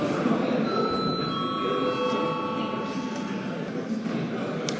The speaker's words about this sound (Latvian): Lūdzu zvanu.